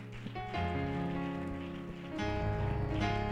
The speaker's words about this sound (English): Can we clap our hands in faith tonight and thank the Lord?